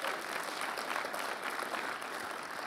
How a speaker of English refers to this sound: If you're thankful for victory, give Jesus one big round of applause.